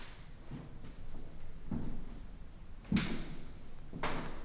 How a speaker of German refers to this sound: Stellen Sie sich vor, Sie verlassen den weißen, in seiner Form einem angeschnittenen Würfel gleichenden Raum und schreiten gemächlich über das helle, falbfarbige und an mehreren Orten unter der Belastung ihrer Schritte knarrende Fischgrätparkett.